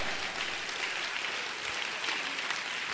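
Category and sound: crowd, audience applauding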